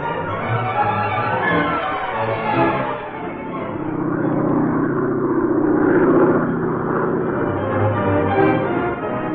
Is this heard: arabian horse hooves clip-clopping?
no